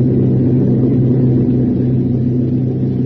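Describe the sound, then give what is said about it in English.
A large plane takes off with a loud, steady engine roar, a deep droning rumble with humming low tones that holds unbroken for the whole stretch, with no voices. “Now the enormous plane is taken off, and the veterans who have shared so many dangers look at each other with quizzical annoyance.”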